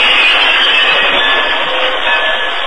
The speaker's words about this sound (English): horse Silver followed alongside the engine as the train of cars rolled over the tracks. The Lone Ranger could see the Comanches approaching as he moved the cars into position across the main road into Stockton and then stopped them to form a barrier.